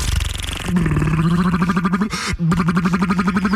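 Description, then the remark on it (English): A voice makes a buzzing motorboat imitation, a steady pitched drone with a fast sputtering pulse. It runs for several seconds with one brief break near the end before resuming. “Bringing you the best motorboat sounds of the 70s.”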